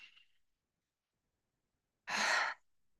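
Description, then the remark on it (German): A single deep, breathy draw of air in through the nose, fairly loud, lasting under half a second after a long silence, with a fainter breath at the very start. “Atme nochmal tief durch die Nase ein.”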